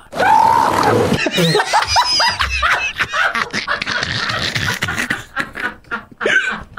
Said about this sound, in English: That took me by surprise. Yeah. That was unexpected. I didn't expect that. Oh, God. Again, the sound of gray seals mating. Wow.